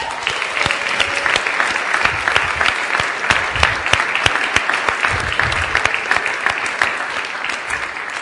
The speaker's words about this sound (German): Oh, und bevor ich jetzt in den Text einsteige, wir müssen noch einmal einen Applaus machen und dann geht's los.